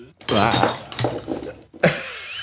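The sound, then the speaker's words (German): An empty glass bottle is knocked over with a sharp clattering knock and a bright, ringing glassy rattle near the end, after a stretch of people talking. “Nee, ich habe zum Glück nur die leere Flasche umgeworfen.”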